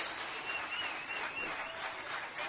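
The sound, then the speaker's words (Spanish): Steady, dense applause from many people clapping on their balconies in Jaén, Spain, a spontaneous homage to ICU health workers: a continuous crackling wash of sound with a faint whistle-like tone running through it and no clear speech. “No se verá, pero está la gente en los balcones aplaudiendo.”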